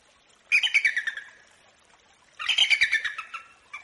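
A peregrine falcon gives two bursts of harsh, rapid cackling calls, each a quick run of loud, sharp notes separated by a brief pause, heard clearly with no talking.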